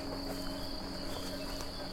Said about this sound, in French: Milieu forestier.